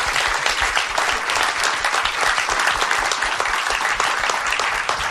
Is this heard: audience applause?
yes